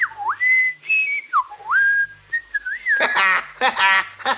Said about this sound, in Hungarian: Hoppá, a sünök fütyülni is tudnak. Csak ha unatkoznak.